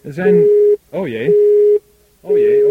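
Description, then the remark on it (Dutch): A telephone busy tone after a live call with a game contestant drops, beeping in steady, evenly spaced pulses over a phone line, each beep a flat mid-pitched hum, with garbled voice-like sounds mixed in. “We gaan eventjes kijken of we de verbinding met de kandidaat kunnen herstellen.”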